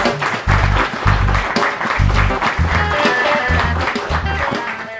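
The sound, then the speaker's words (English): An audience applauds the MVPs of a consulting group with steady, dense clapping that fills all five seconds at a fairly loud level, while a rhythmic low thumping beat pulses underneath. “So once again, a nice round of applause for those folks, and we can go ahead and get started.”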